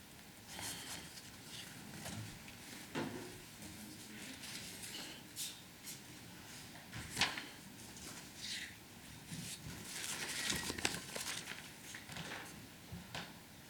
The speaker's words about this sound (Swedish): Men jag håller på att bläddra i årsredovisningen här. Ska vi se.